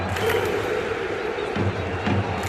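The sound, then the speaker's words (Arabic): A huge stadium crowd of Moroccan football fans chants one of their most famous chants in unison, a loud, dense roar of many voices with a rhythmic, pulsing swell, sustained throughout without a break. “هنا تنطلق صرخات الجمهور بواحدة من أشهر الهتافات.”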